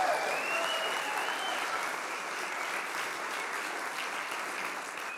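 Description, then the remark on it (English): An audience claps steadily in a church service on Easter Sunday, a dense, sustained wash of applause from many hands at an even level throughout, with faint cheering voices mixed in. “Would you just clap? Give him a praise him.”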